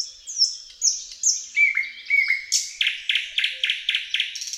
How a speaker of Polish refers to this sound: Pieśń słowika szarego to seria donośnych, gwiżdżących, fletowych i kląskających tonów, zakończonych charakterystycznym dla tego gatunku terkoczącym dźwiękiem.